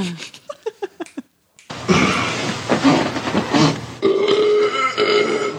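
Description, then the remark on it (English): A quick run of short, pitched fart noises plays a Christmas song melody, one note after another. After a brief pause comes a long, loud, sputtering, hissy blast that carries on to the end. “This is ….”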